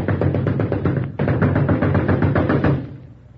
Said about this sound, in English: Who's that out there banging on my door? A giant? I said, is that a giant out there?